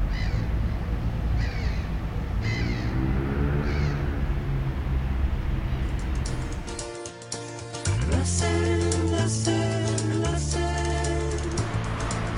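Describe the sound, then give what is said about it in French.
Seagulls on the banks of the Seine in Paris call repeatedly with harsh, mewing cries, a run of short squawks giving way to louder, longer wailing calls that overlap one another. “Pas de promeneur de chien, mais des mouettes.”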